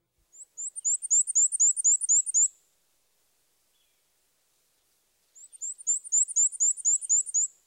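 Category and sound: bird, black-and-white warbler song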